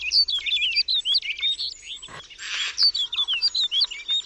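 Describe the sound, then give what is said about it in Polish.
A snow bunting sings a fast, continuous run of bright, warbling chirps and trills, clear, with a brief rustling burst partway through and no talking. “To jest też taka ciekawostka związana ze śniegułą.”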